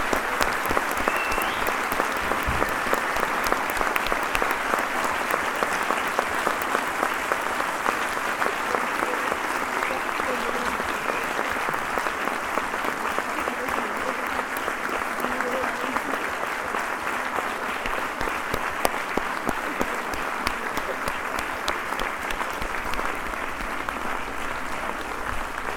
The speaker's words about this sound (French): On voulait lui rendre un hommage joyeux. Donc si vous, avec votre concours, si vous le souhaitez, on voulait lui faire un tonnerre d'applaudissements.